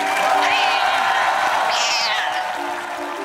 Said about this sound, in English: Guess what? He's here with us tonight. Let's give the field crew member a hand. Come on.